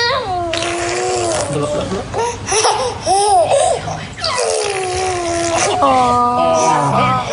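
A baby boy blows repeated raspberries, buzzy sputtering bursts mixed with high squealing giggles and babbling, loud and lively throughout.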